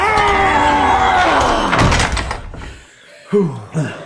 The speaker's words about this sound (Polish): Pomóżcie mi zamknąć drzwi! Pomóżcie!